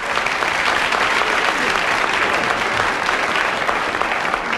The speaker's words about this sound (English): our guest, who did extraordinarily well coming in second place, so let's give a round of applause now to June Whitfield.